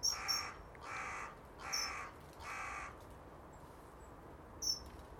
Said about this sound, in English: Two crows flew overhead, but the noise was a big crow up in the tree away to the right. Maybe he was just calling to them.